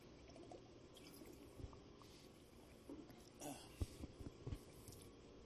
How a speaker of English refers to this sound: Can you just bring him here with that sip of water, which I'll take again, because boy, am I thirsty.